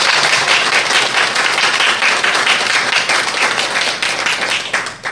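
An audience on a show applauds guests from the National Federation of the Blind national office in Baltimore, Maryland, a dense, loud wash of many hands clapping that holds for several seconds before starting to thin out at the end, with no voices over it.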